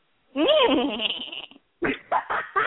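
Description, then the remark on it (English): A person does a loud, quavering imitation of a horse's whinny for about a second, the pitch wobbling up and down, followed by a few short vocal bursts. “What does a horse sound like?”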